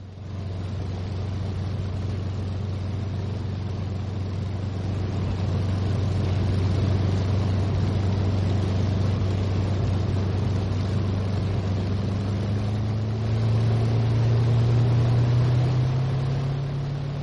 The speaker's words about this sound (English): In fact, I defy anybody to tell the difference as the hurricane that you can't distinguish. It is not surprising because both aeroplanes have the same Rolls-Royce Merlin engine. As I say, you can't distinguish the difference in sound.